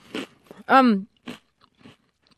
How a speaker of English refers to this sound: This one has much more crackling. Yes. So that's due to the bake, the difference in baking. Okay. It's about the same size as the New South Wales. Mm-hmm. Yep. Is that good listening to me crunch on biscuits? It sounds like you're enjoying it.